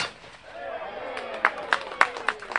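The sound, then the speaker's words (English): Five sharp shotgun blasts crack out in quick, fairly even succession during the second half as John Kerry trap-shoots clay pigeons with a group of sportsmen at a roadside farmhouse in Ohio on Labor Day weekend, over a steady bed of murmuring voices and outdoor noise. “On a bus tour through Ohio this Labor Day weekend, John Kerry stopped at a roadside farmhouse for some trap shooting with a group of supportive sportsmen.”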